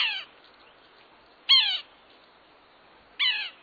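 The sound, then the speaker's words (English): Three harsh, nasal mewing calls of a yellow-bellied sapsucker, each a short descending squeal with layered overtones, spaced about one and a half seconds apart over a quiet background. “When it comes to goofy bird names, there's something irresistible about Yellow-Bellied Sapsucker.”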